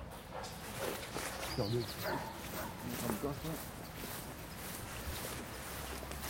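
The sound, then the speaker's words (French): A working dog in a harness, set up where people are screened, gives a few short, excited barks and whimpering yips in the middle, over a steady noisy outdoor background with faint voices. “Et dès qu'on lui met le harnais, ça y est, le chien, il est au travail, il arrête de jouer.”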